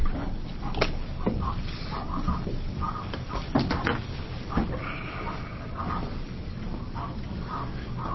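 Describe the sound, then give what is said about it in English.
A dog's muffled, repeated whines or yelps echo hollowly through a heater system's ducts, over a steady rumbling background with a few sharp knocks. “It's a dog, isn't it? It sounds like a dog in the heater system.”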